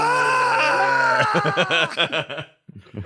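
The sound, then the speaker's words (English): A voice imitates a screaming goat: a long, loud, drawn-out cry that breaks into a quick series of wavering bleats, followed by a brief pause and a short tail of sound. “Somebody needs to take this gif and add the screaming goats sound to it when he yawns.”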